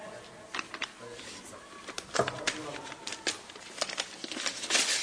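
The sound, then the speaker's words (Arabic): Dry paper rustling and crinkling in irregular bursts of short crackles, fairly quiet, with faint voices in the background. “لا لا في ورق.”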